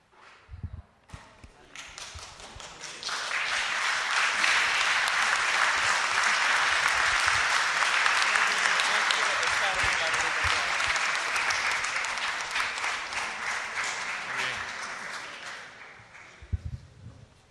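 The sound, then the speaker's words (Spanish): An audience breaks into sustained applause, building over a couple of seconds to a steady, dense roar of many hands clapping, then gradually thinning out and fading after about fifteen seconds. “Gracias por el aplauso.”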